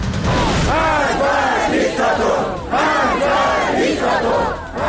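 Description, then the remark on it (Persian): A large crowd at a widespread anti-government protest in Iran on a Friday evening chants in unison. Many voices rise and fall in a steady rhythmic pattern of repeated shouted phrases, loud and continuous for the whole stretch. “خبر امروز کشیده شدن دامنه اعتراضات به شهرهای بیشتری در ایران، از خوی تا بندر دیر، از آذرشهر تا خاش، شامگاه جمعه تظاهرات گسترده ضد حکومتی برگزار شد.”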